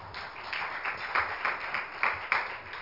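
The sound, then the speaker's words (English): An audience clapping hands together in praise of the Lord, a dense, steady patter of many claps with sharper peaks, moderately loud, with no speech over it. “Give the Lord one more hand clap of praise.”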